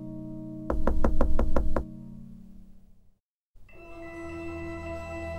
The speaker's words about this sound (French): le loup se coucha dans le lit et il attendit le petit chaperon rouge qui ne tarda pas à frapper à la porte.